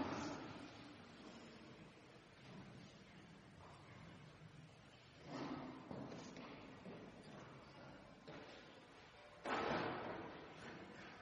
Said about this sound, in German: Jetzt öffnen wir die Tür zum letzten Mal. Ich brauche ein Kind, was die Tür mal öffnet. Kommst du mal mit der weißen Jacke und machst die Tür auf?